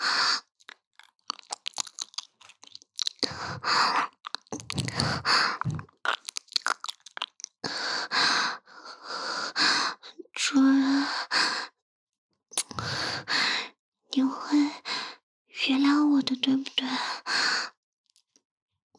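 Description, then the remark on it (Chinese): Heavy, breathy panting right up close to the ear, coming in uneven bursts separated by short silences, with soft wet mouth noises mixed in. “做的还不够，是想让我一边舔你的耳朵，一边喘气吗？”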